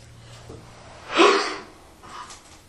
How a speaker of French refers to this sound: Une respiration tranquille. Nous allons compter. En combien de secondes nos inspires et nos expires se diffusent? Elles sont 3 secondes, 4 secondes ou plus.